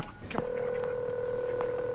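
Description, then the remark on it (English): A single telephone keypad button tone begins just after a soft click and holds steady for over a second and a half, a clear two-pitch beep with faint background noise beneath it. It is a number pressed to choose an option in an automated phone menu for reporting a robbery. “If you need immediate assistance, press the following number on your phone.”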